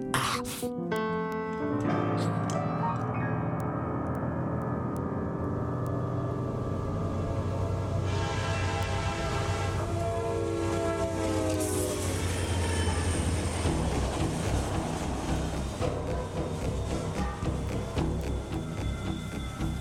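A train rumbles steadily along the tracks with a continuous low roar, while a sustained multi-tone horn blares loudly over it before fading into the ongoing rattle of the cars.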